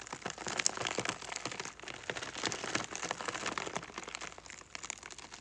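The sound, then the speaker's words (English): Iceberg lettuce pressed and rolled on a table, giving a dense, crinkly patter that convincingly imitates rain drumming on a tent, rising and falling in waves with no voices. “Just iceberg lettuce. So what I'm doing is I'm just pressing down and rolling the lettuce on the table.”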